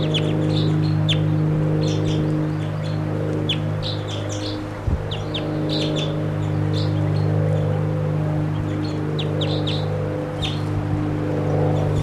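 A wild bird calls repeatedly in short, high chirps and tweets over a steady low mechanical hum, with no voices present.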